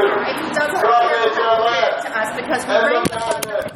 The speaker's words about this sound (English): That was the sound of a camera being punched by that same woman who was lying about Brian Maloney not living there.